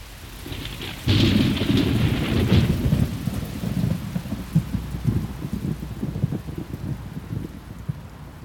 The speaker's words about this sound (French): Je marche lentement et mes larmes se mêlent aux gouttes de la pluie qui s'abat sur la ville.